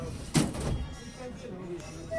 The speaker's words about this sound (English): The call to prayer at Kairouan's Great Mosque is an important sound in Tunisia, but so is the sound of doors closing on a commuter train.